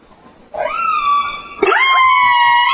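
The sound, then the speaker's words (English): An orca call plays as a phone ringtone: two long, high, squealing whistles rich in harmonics, each sweeping upward at its start, the second following right after the first, loud and with no talking. “How about an orca? That'd be kind of cool.”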